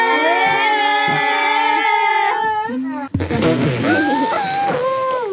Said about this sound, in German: Die Kinder drehen sich um und sehen einen Elefanten, wie er einen anderen mit dem Rüssel mit Wasser abspritzt. Der andere Elefant trötet laut.